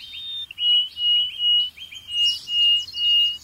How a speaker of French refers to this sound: Les oiseaux n'ont pas accès à Tinder. Leur seule manière de se courtiser, c'est avec le chant.